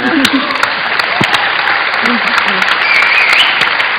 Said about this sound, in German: Applaus, zu Recht.